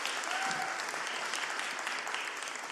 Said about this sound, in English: So, Aaron, wherever he is, if you want to come up here, we'll clap for Aaron.